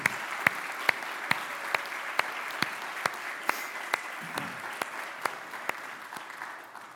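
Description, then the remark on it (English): A church audience applauds its children's, preteen, and youth ministry volunteers, a steady wash of many hands clapping. A few louder, sharp claps stand out at an even, regular beat above the dense patter, which thins slightly toward the end. “If you volunteer in children's ministry, preteen, or youth, could you stand up and could we just give our volunteers for our children's, preteen, and youth ministry just a round of applause for all they do with our kids?”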